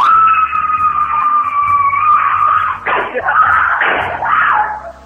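A boy screams loudly and continuously, a high, sustained wail, broken by a couple of sharp thumping knocks as he bangs his head on a desk partway through while the screaming keeps going.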